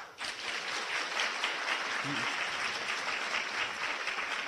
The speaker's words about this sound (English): So those are your two choices. We'll do it based on applause. How many people want to hear a discussion of the Americans Smile Too Much essay?